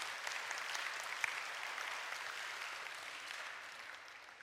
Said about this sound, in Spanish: ¿Y por qué entonces no nos damos una bienvenida con un aplauso caluroso cada quien?